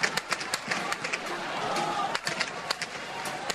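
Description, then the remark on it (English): Gunfire crackles in Cairo in irregular bursts, about fifteen sharp cracks in under four seconds, over a constant roar of crowd noise and indistinct voices. “The sound of gunfire in Cairo.”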